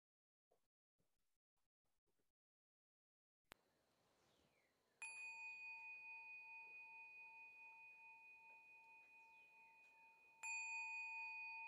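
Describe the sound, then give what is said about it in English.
A bell is struck twice, about five seconds apart, each strike loud with a bright, pure tone that rings on and slowly fades, rung to close a guided reflection. Faint soft taps come before the first strike. “Going to ring the bell to bring us out of this reflection.”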